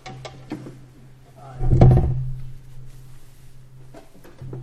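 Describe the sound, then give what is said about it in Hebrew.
A chair is brought over and set down with a single heavy, scraping thud, preceded by a few light knocks and clicks over a steady low hum. “תביא, תביא את הכיסא שם. הנה, זה כיסא טוב.”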